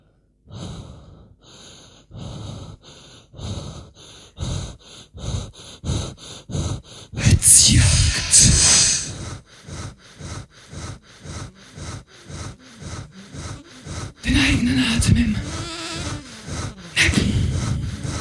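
Rapid, rhythmic, steady panting breaths give way to louder, harsher rasping gasps that continue in uneven bursts with no talking.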